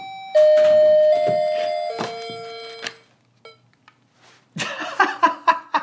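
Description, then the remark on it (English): An electronic doorbell module chimes loudly, ringing out several sustained tones that step downward in pitch. After a short quiet pause, a busier burst of sound follows. “No, no more doorbell for me tonight.”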